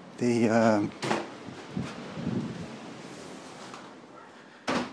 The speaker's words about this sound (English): It's just the wind howling, it's just blown our door open.